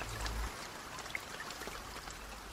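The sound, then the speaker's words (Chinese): Steady, soft rainfall hisses across the whole stretch, with scattered drops pattering on top and a brief low rumble at the very start. No one speaks; the rain sounds fairly quiet and even. “或许在忙碌的日常节奏中，一个人的孤单容易被遗忘，而这份被遗忘的孤单，却在一个下雨的日子，触景伤情，又被唤醒了。”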